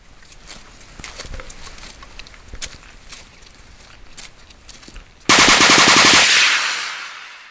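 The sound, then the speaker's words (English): Scattered sharp cracks and pops of blank-ammunition gunfire from soldiers on a training patrol, then a sudden loud, sustained burst of live overhead fire from machine guns mounted on the sides of a valley, its dense rattle of shots fading over the final two seconds. “Soldiers may only be firing blank ammunition, but the live overhead fire from the machine guns mounted on the sides of the valley helps to add a realistic edge to the patrol.”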